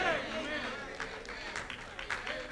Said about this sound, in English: Amen. Thank you for the two people clapping over here. Everybody else looking at me like you're crazy. I saw two people clapping.